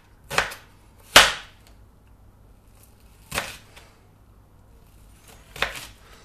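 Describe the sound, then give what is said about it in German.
A knife dices an onion on a cutting board into small cubes, cutting crosswise, in four sharp, crisp strikes at uneven intervals, with quiet pauses between them and no talking. “Und dann quer dazu gehen. Und dann hast du einigermaßen gleichmäßige Würfelchen.”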